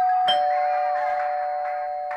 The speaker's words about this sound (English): Who's tinkling the bell on my front door?